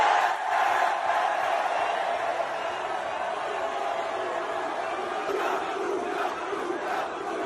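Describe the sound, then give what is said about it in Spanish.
A large crowd in Milan roars and chants together, welcoming former Real Madrid midfielder Luka Modric at his presentation: a steady, sustained wall of cheering, loud and continuous for several seconds with rhythmic swells of shouting voices. “Locura total la que ha desatado el exmedio centro del Real Madrid,”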